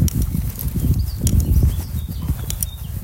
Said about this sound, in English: Beautiful bird song there.